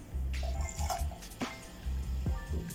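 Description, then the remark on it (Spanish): Mineral water pours into a glass, a steady gurgling stream with a few splashy drips and rising bubbly sweeps, nobody talking; it is added after ice and red wine while mixing a drink. “El agua mineral,”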